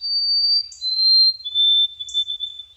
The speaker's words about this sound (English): I tear up a little every time I hear the song of a white-throated sparrow, thinking about Ada's poem, "Sparrow, What Did You Say?"